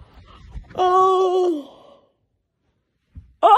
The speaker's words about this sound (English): Oh my god, that yawn has come from my toes.